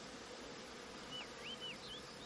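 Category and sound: insect, bees buzzing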